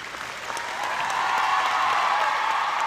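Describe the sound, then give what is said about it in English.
Sustained ovation from a large crowd at a school district convocation, greeting a newly introduced school board member: a dense wash of clapping that swells in the first second and holds steady and loud throughout, with no voices standing out. “Looking surprised at the ovation, Danford clutched her hands to her chest and fought to keep composed.”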